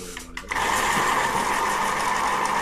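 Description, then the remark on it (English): An electric pencil sharpener starts after a brief pause and runs as a steady, loud motorized whir with a grinding buzz, continuing without a break to the end. “What's that noise? The pencil sharpener.”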